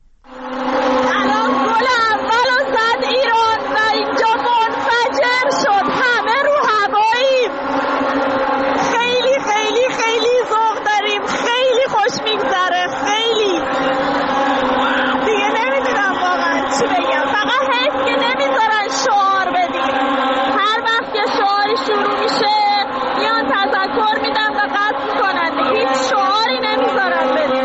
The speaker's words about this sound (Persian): این هم باز صدا از داخل استادیوم یکی از خانم ها برای ما فرستاده. ببینیم بعد از اولین گل چه اتفاقی افتاده.